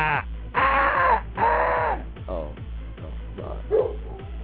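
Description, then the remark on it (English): A dog barks at a person in three loud, harsh, drawn-out bursts in quick succession, followed by a few softer, shorter barks over a steady low hum. “That's the dog barking at me.”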